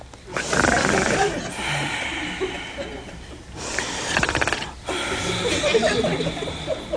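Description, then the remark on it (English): A voice imitates the biblical Adam snoring while sound asleep: three long, raspy, rattling breaths, each lasting about two seconds, with hissy, wheezing exhales and no spoken words. “And he was snoring.”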